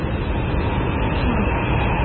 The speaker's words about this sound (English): Tornado. Mama! Mama! Stay there, son. I'm coming to get you. I started to run across the yard. The roar increased until it became the only thing in the world. I couldn't breathe. I felt no pain, saw nothing. I was filled with that roar.